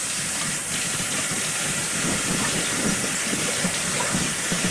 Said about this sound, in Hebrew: טוב, הקרפלך שלנו צפים, איזה חמודים, אנחנו מוציאים אותם ואנחנו ניתן להם שטיפה במים להפסקת הבישול ואז נראה לכם אותם. מים קרים.